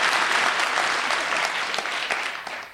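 A group of people clapping steadily for a few seconds, a dense, lively patter of many hands, with no talking over it.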